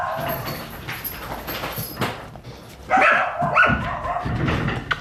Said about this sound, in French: il y a les chiens du lounge qui sont un peu perturbés là. Je sais pas si à un moment vous pouvez juste aller les soulager un peu.